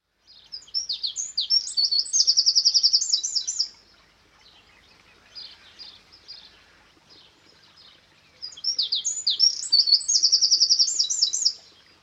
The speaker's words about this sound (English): A tiny brown bird with a short, cocked tail and a loud voice. The wren is unmistakable. It can be found in almost any habitat where there are insects to eat and bushes or rock crevices in which to build their domed nest out of moss and twigs.